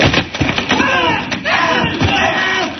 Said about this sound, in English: Now I'm going to smash that front propeller.